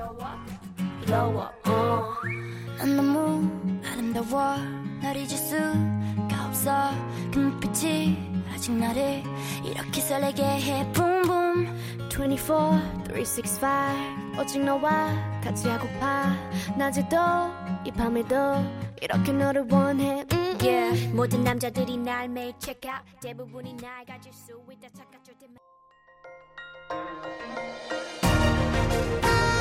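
A K-pop song with a whistled melody plays loudly and steadily over a driving beat, dipping briefly near the end before a burst of bright, noisy sound cuts in.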